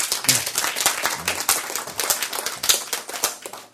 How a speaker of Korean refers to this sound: 박수